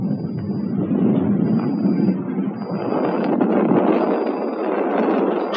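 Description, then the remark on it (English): A steady, loud rushing roar fills the whole stretch as a rocket is fired and climbs high up into the clouds, with a thin high whine drifting in and out above it. “It works! Just look at it climb up there. My rocket really works! It's just like fireworks.”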